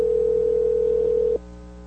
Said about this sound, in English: We'll see if they pick up our phone call right now. Let's see.